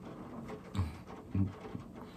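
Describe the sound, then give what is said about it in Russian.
Soft, steady rain hiss with a few dull, low taps of rain landing irregularly on a windowsill, quiet overall and with no voices. “Ну, зато у нас кому-то понравится, возможно, этот стук дождя.”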